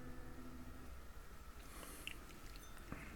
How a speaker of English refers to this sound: Let me have another sip and taste.